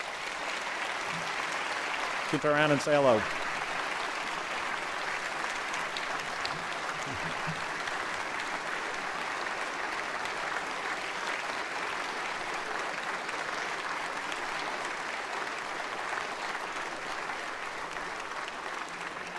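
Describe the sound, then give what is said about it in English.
Sustained applause from a crowd recognizing the governor's three children as they stand, a dense, steady wash of clapping with a brief spoken phrase near the start. “I would like them to stand, and I'd ask you to please recognize them with a round of applause.”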